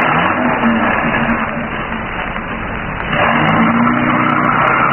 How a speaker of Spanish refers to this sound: El hombre de blanco cerró la portezuela, se acomodó frente al volante y encendió el motor.